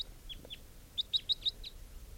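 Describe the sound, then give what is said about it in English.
A bird chirps in a quick series of short, high-pitched notes, a couple of separate chirps followed by a rapid run of four or five, over a low, steady background rumble. “It's a type 3 bird, I think.”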